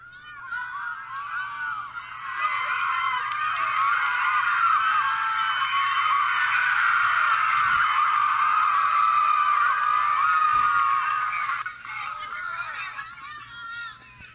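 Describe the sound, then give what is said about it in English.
A large crowd screams and roars at a soccer game as the team gains the ball and kicks it back and forth, a dense wall of high-pitched cheering that swells after a couple of seconds, stays loud and sustained, then drops off near the end. “I know that sounds like a lot of screaming.”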